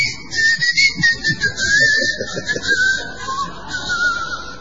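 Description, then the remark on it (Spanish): A long, steady whistle announcing closing time at 10 p.m. in a plaza holds one shrill pitch for several seconds, wavering only slightly, over a low rumble of background murmur and noise. “suena el silbato, señor”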